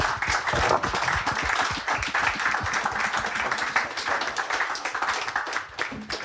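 A crowd applauds with dense, steady clapping that stays loud and even throughout, many hands blending into a continuous rattling wash without any talking over it.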